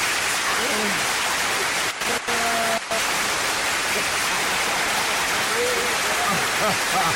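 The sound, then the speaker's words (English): Dense, continuous hand clapping, done manually as applause, fills the whole stretch, loud and steady with a rushing, rain-like texture, briefly cutting out for a moment near the middle. “We got to get some applause. We got to do it manually.”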